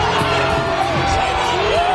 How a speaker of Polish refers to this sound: Głośne okrzyki wstyd rzucane w kierunku interweniujących policjantów. Kilka godzin wcześniej policja uznała propalestyńskie obozowisko na terenie kampusu za zgromadzenie nielegalne.